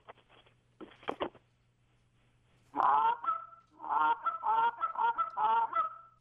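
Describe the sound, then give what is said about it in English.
A few short clucking clicks, then a run of loud, honking cluck moans blown on a goose call, with drawn-out nasal tones in quick rhythmic bursts and no talking. “you might want to mix it up with some moan clucks, some cluck moans.”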